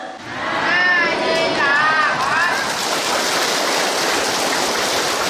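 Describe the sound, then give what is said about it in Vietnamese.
Steady, hissing rain with wind outdoors fills the background in an even wash, while a voice briefly speaks over it near the start before the downpour continues alone. “Ngoài trời là gió, mưa, nhưng mà do vậy không có nóng.”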